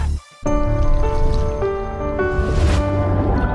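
Steady water pours from a tap in a continuous gush with a faint ringing tone, starting after a brief pause and flowing loudly for a few seconds, with no talking.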